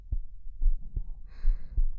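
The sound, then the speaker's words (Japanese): A slow, steady heartbeat with deep, soft lub-dub thumps repeating at a relaxed pace, with a faint airy hiss rising briefly in the background. “心臓の音に意識を向けてみよっか。ゆったりと心地のいい音。”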